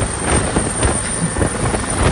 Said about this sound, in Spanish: A partir de aquí el ruido que hay es tan fuerte ya que no tenemos sonido. El ruido de las aspas se lo come todo, tanto dentro del helicóptero como fuera. Claro. Aunque grites, este es el único sonido que se graba.